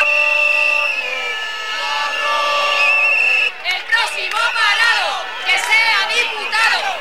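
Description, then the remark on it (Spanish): Steady, high whistles drone for a few seconds, then a loud crowd of protesters at an unauthorized protest in the Puerta del Sol bursts into rhythmic shouting of slogans against the government, many voices rising and falling together while the whistles continue underneath. “Es una protesta no autorizada por la delegación de gobierno que ha sido convocada por las redes sociales esta tarde, en la que los manifestantes gritan consignas contra el gobierno.”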